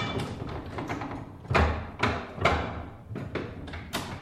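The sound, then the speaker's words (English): An old printing press runs with a steady mechanical clatter, repeated heavy thumps and clacks landing about every half second over a constant rumbling whir. “Here's an old printing press.”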